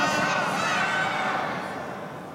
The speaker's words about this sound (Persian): من مست اسم امام حسنم و این فریادهای شما معلومه که به عشق امام حسن داریم اینطوری فریاد میزنیم.